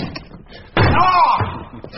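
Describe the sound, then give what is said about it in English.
One loud kick slams into a locked wooden chest of drawers, a heavy thud followed by a short hollow ringing rattle, with quieter rustling and murmuring beforehand. “Well, open the chest of drawers. It's locked. Kick it to death.”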